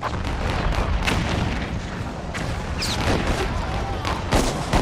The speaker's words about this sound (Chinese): 这一炮是开战的信号，查尔斯顿港口周围的所有南方邦联炮舰纷纷投入战斗，炮弹好像雨点一样飞向萨姆特堡。隆隆的炮声惊醒了查尔斯顿睡梦中的居民，他们飞奔到港口，看着呼啸的炮弹划破夜空，欢呼雀跃。